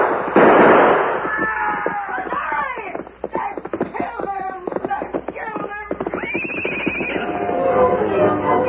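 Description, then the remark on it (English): A rapid volley of sharp gunshots, loud cracks firing in quick irregular bursts, with men's voices shouting over them throughout. “He's glad to go anywhere if it's away from that shooting.”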